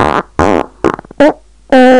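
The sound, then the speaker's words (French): A string of five farts from two people holding a farting contest, with short gaps between them, loud and buzzy. One breaks into a quick sputtering rattle, and the last is a long, steady, higher-pitched blast. No one speaks. “J'ouvre tout en grand et respire avec volupté l'air frais parce que ces deux lascars font des concours de paix.”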